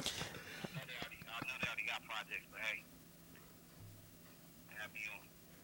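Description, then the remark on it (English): A mobile phone rings with a bright electronic melody, a quick run of warbling tones for a couple of seconds, a short pause, then the tune starting up again. “This has been one of those rare days where I forgot to turn off my phone, so I let you into my private life.”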